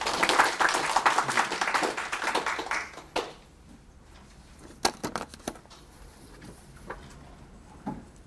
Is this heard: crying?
no